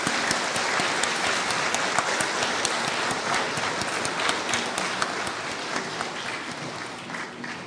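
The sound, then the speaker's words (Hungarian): A crowd claps steadily for several seconds, a dense wash of many hands at a sustained level that tapers slightly toward the end, with no talking. “Nagyon szépen köszönjük, hát hatalmazzak fel mindenkit, akár egy tapssal is kifejezhetjük a mi örömünket.”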